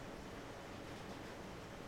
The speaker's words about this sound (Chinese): 怎么突然这么大的雨啊？